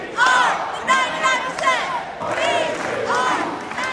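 crowd, protest crowd chanting slogans

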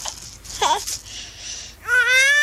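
human body sound, baby crying

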